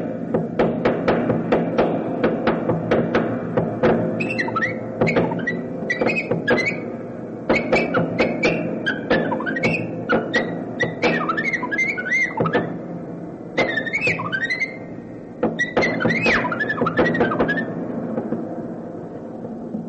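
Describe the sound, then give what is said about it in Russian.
A musician improvises in the manner of birdsong inside a piano, playing its strings and resonating body parts. Sharp plucked and struck string hits ring out in a busy, irregular stream, with quick chirping high-pitched runs woven between them, sustained at a steady, fairly loud level without any voices. “Он импровизирует в манере птичьего пения, и вдобавок он залез внутрь фортепиано, играет на струнах, на всевозможных резонирующих частях корпуса фортепиано, и такой человек-оркестр, как бы.”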